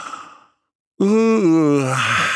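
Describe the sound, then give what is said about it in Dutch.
A loud, drawn-out exaggerated yawn voiced by a person, rising in and then sliding down in pitch, preceded by a soft breath and a brief silence. “Gaapt ze heel hard.”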